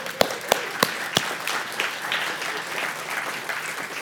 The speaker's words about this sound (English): And as these people are making like the like shuffle up, just celebrate them and clap for them as they're walking up.